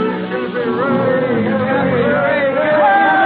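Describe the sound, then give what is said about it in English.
A crowd of sailors and ship owners cheers and shouts together on the steps of the Blue Star Line shipping offices by the wharves, congratulating Cappy Ricks on his 60th birthday, many overlapping voices forming a loud, steady roar that holds for the whole moment without pause. “On the steps of the Blue Star Line, Cappy Ricks, the president, faces a huge crowd of sailors and ship owners.”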